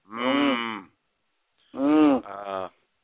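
A cow moos twice, loud: one drawn-out low call, then after a short pause a second moo that breaks into a lower tail. No other sounds around it.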